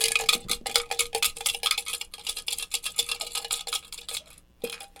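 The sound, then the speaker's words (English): Keys rattle and jangle inside a noisy toy: a fast, continuous stream of bright metallic clinks for about four seconds, a brief pause, then one last clatter. No one speaks. “I'm going to put the keys in here.”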